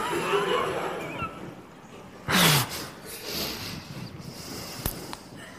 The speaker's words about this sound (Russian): Он очень так смачно зевнул сейчас.